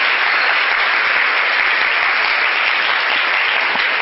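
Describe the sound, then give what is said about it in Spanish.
Loud, sustained applause from a large audience, a dense steady wash of clapping hands that fills the whole stretch without pause, applauding a speaker who gave a conference talk. “Y yo pido un aplauso fuerte”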